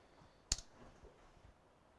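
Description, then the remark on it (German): A single crisp computer mouse click, a quick press and release, sounds distinct against a faint, quiet background with no one speaking. “Sonst klicken wir irgendwo drauf.”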